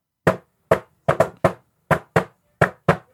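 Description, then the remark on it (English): Someone knocks on a door about nine times in loose clusters: sharp, solid wooden raps, fairly loud, with no voices between them. “Lads, who's at the door this week?”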